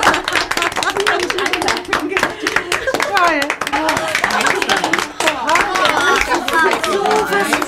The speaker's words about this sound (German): Der Applaus riss nicht ab.